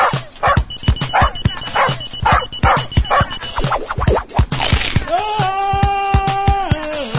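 A dog called Spanky barks in a rapid, steady string of sharp yaps for several seconds, then a sustained, steady-pitched whine holds briefly before cutting off, all fairly loud.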